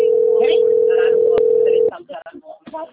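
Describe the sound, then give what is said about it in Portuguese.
A telephone rings with a single steady, mid-pitched electronic tone lasting about two seconds, with people talking over it; the tone cuts off abruptly and the talking continues. “atendendo meu telefone, minha filha.”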